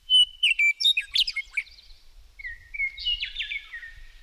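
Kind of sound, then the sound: bird, birdsong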